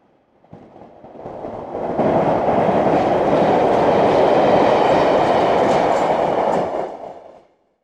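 A train rumbles along the rails, building from quiet to a steady, loud roar with a faint rhythmic clatter, then fading away after several seconds. No voices.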